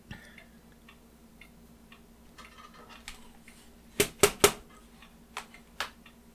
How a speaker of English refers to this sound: Had to knock some gunk off my keyboard there.